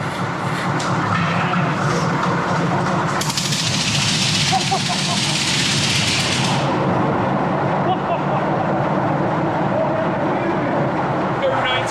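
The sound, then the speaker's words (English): Loud, steady roar of diesel engines running at full power continuously, compressing air to charge a foghorn, with a hissing rush of compressed air surging in the middle few seconds before settling back to the engine drone. “Diesel engines going full pelt now, compressing the air to come out the foghorn.”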